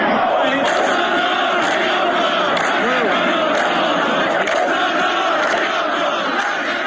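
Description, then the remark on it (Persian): A large crowd of protesters in Ardakan, Yazd, Iran, chants slogans against air pollution, a dense, loud and continuous wash of many voices with rhythmic rises as the chant repeats, steady throughout with no single voice standing out. “اینها نمونه های از شعارهایی است که تعداد زیادی از مردم اردکان امروز سه‌شنبه 5 دی‌ماه در پی تشدید آلودگی هوا”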